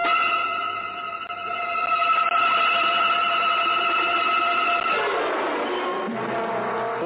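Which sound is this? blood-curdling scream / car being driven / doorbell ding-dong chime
car being driven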